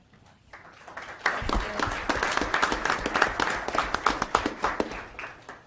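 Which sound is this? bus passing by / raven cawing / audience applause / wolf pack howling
audience applause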